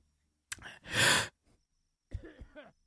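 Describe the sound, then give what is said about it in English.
A single sharp cough bursts out, trailing into a long, loud, breathy exhale, then a few short voiced grunts follow after a pause. “All right, let me cough again.”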